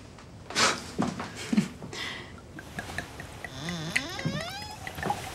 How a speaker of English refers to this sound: smiling to herself as she pours a glass of white wine.